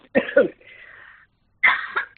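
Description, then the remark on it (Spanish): A loud coughing fit from a person in an interview, just as they begin to speak: two sharp harsh coughs followed by a raspy wheezing breath, a brief pause, then another pair of forceful coughs, with no talking. “Pues de repente te da tos.”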